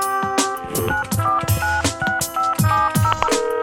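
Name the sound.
telephone number being dialed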